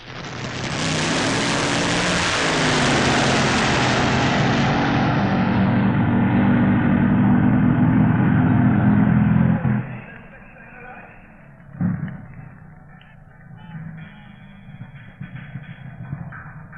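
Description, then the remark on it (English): Top fuel dragsters thunder down the drag strip in the Top Fuel Dragster final, the Flying DJ from Radio 1 against Trevor Young, a deafening, sustained roar for about ten seconds, then the noise cuts off abruptly, leaving quieter background murmur and a brief clunk. “On to the final of Top Fuel Dragster.”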